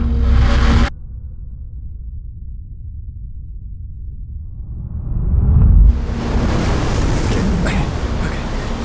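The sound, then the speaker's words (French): Sandstorm wind: a brief burst of noise gives way to a low, steady rumble that swells into a loud, harsh roar of rushing wind and hiss, sustained to the end. “Cette tempête de sable.”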